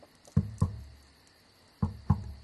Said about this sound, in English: Maybe it was my imagination. Until a knock-knock sound started on my wooden headboard. The knocking was coming from below.